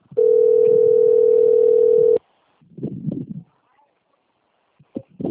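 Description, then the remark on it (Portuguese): A telephone ringing tone sounds once as a loud, steady mid-pitched hum for about two seconds and goes unanswered. Soft, muffled voice sounds follow after it stops. “The number is not answering.”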